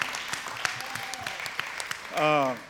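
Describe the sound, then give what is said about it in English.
A church audience claps together in a dense, steady burst of applause as a hand clap of praise to God, with a single voice briefly calling out above it near the end. “Give God a hand clap of praise.”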